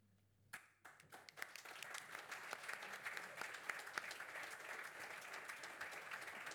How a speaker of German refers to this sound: Und auch einen speziellen Applaus an die deutsche Stimme, die das für uns heuer zum ersten Mal gemacht hat.